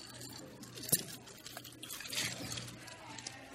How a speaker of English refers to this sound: we got 4 straws in a glass. We're all going to take one big inhale. Hey, where's mine?